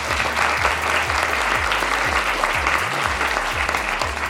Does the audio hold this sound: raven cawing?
no